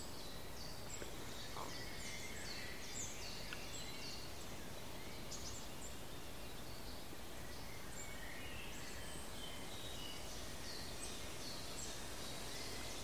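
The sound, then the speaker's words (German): A chiffchaff sings its repeated high, two-pitched notes in an uneven run, faint over steady rustling of aspen leaves, with other birds chirping softly now and then. “Da ist der Zilpzalp jetzt.”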